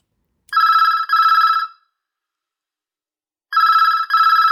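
A telephone rings in two bursts of a double ring, each a bright, warbling electronic trill, separated by a long silence, with no voices.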